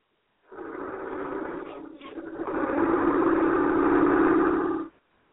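car engine running

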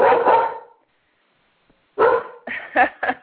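dog barking

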